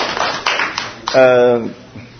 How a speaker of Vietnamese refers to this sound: Rồi, chúng ta cho một tràng pháo tay để cảm ơn những câu trả lời đó.